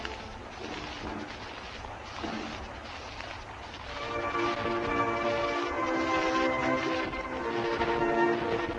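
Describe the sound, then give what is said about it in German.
A brass band swells into a slow, solemn funeral chorale with sustained chords during the funeral procession of statesman Gustav Stresemann through the streets of Berlin, heard from a balcony, rising out of rumbling outdoor crowd noise about halfway through and playing fairly loud. “Sie hören jetzt sicher laut den Trauerchoral.”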